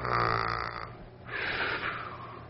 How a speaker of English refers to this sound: And there's sounds of snoring all over.